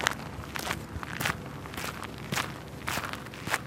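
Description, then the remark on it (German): Footsteps walking through the town of Donaueschingen at a steady, even pace, roughly two steps per second, each a crisp scuff on hard ground, over a quiet outdoor background. “Wenn ich durch Donaueschingen laufe, dann klingen meine Schritte so.”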